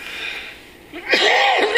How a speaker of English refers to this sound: I'm sorry about this coughing. Apologize.